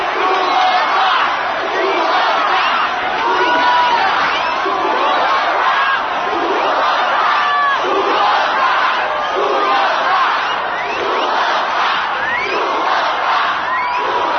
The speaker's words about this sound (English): What is that? It's an encore. They want us to go play another song.